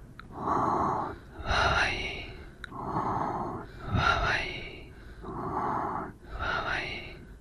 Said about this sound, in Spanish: Pero con la respiración rápida necesitamos 2 respiraciones completas.